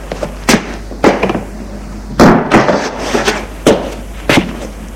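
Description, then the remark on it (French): A woman closes the door of a large three-storey 19th-century house near Charbonnières; it swings shut with a solid thud, surrounded by a handful of sharper knocks and latch-like clicks spread over a few seconds, with no one speaking. “Et elle ferme la porte.”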